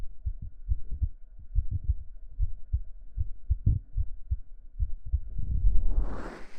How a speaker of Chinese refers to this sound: 我的心跳很快。可能是因为一个陌生的男生躺在我大腿上，还贴着我胸口听心跳吧？